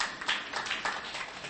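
A church audience claps during a sermon in a brief, steady patter of many overlapping hand claps, fairly soft and continuous, with no voices over it.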